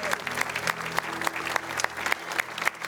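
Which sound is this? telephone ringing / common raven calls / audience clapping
audience clapping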